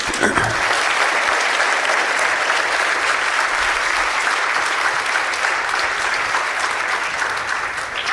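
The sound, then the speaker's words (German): Sustained applause from an audience at the end of a talk, a dense, steady wash of clapping that holds at an even loudness for about eight seconds with no voices standing out. “Hier sind nochmal die Kontaktdaten und dem Applaus würde ich jetzt gerne dem Team widmen.”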